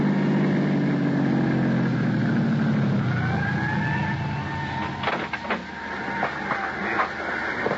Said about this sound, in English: Thanks to an ambulance that pulled away from the curb and headed south toward town, I found a parking space.